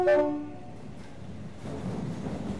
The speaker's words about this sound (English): The train left the station.